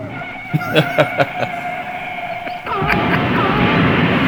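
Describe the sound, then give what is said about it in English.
A transfusion sound effect: a steady electronic hum with a quick run of five sharp pulsing beats, then a sudden surge into a loud, rushing, hissing whoosh that continues to the end. “That's the same transfusion sound effect.”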